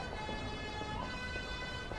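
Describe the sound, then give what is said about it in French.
An emergency vehicle siren wails steadily for the whole stretch over a low rumble of traffic noise, moderately loud, with no voices, in a town centre filled with barriers, police cars and fire engines. “En débouchant dans l'avenue, Charlotte et son papa découvrent que le centre-ville est plein de barrières, de voitures de police et de camions de pompiers.”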